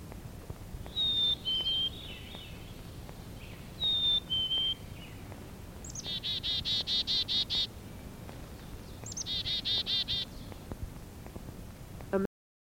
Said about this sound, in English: Song is a whistled Phoebe, Phoebe. The call we commonly hear is chickadee dee dee, chickadee dee dee. Listen and see if you can hear it.